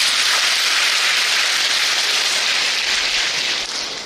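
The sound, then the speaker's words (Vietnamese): A few dozen young people in an audience burst into loud, sustained applause, a dense wash of many hands clapping that holds steady for about four seconds before easing slightly at the end, with no voices over it. “Ở đây bạn trẻ nào mà vừa đi học mà vừa đi làm không sử dụng đến tiền trợ cấp của cha mẹ như thế này, cũng có được vài ba chục bạn cho một tràng vỗ tay thật lớn nè.”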